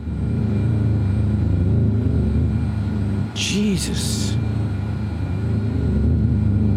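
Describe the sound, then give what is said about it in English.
Loud, continuous low mechanical droning, like construction machinery running at night in the dead of winter, with a steady pulsing rumble throughout and a man's brief exclamation partway through. “No, too rhythmic. Who's doing construction at this time of night?”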